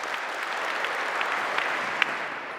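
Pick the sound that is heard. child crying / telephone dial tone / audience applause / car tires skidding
audience applause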